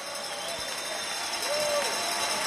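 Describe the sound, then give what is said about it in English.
A steady wash of crowd cheering fills the scene, with bells ringing continuously over the din, blended into the noisy background, as Colleen and Gary join Herb on a balcony; the cheering and bell ringing last almost a full minute before a tile presentation. “By the way, the cheering and bell ringing went on for almost a full minute before the tile presentation.”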